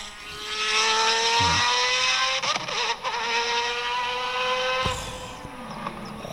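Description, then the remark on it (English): A loud car engine revs, its harmonic whine rising and holding steady, with a sharp burst of a rev or gear change near the end before settling into a rumbling idle. “Please tell me we're not just going to play engines and stand the microphone for the remaining 12 minutes of the podcast.”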